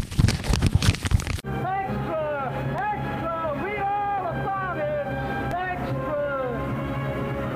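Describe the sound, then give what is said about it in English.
A paper envelope crinkles in a dense burst of crackly, rustling noise for about a second and a half, then stops abruptly as a voice begins talking. “And now I have an envelope I can crinkle.”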